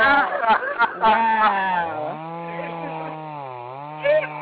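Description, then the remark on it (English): A man's voice imitates a chainsaw: a buzzy, sputtering rev-up, then a sustained droning whine that dips and swells for a few seconds before a final burst. “Oh, shit, this nigga do a sound effect.”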